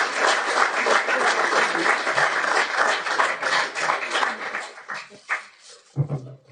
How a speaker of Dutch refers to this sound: Applaus nog een keer.